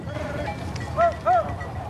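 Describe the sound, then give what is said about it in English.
Two short goat bleats, one right after the other, sound from a distance in a dusty landscape where a goat herder is, over a low, steady background rumble. “He notices a goat herder in the distance.”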